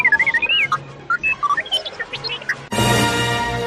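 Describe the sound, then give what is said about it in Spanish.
The robot R2-D2 from the Star Wars films chatters in quick electronic whistles and beeps, warbling up and down in pitch in short bursts, before breaking into a loud, harsh buzzing squawk at the end. “Los silbidos más famosos de la historia del cine.”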